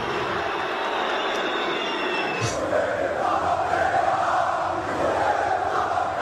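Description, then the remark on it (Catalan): A stadium crowd in Paris loudly whistles at football player Messi, a dense, shrill wall of whistling over a constant roar of voices that swells slightly midway and holds steady throughout. “Aquests eren els xiulets a Messi, fa uns dies, sorprenentment a París, no?”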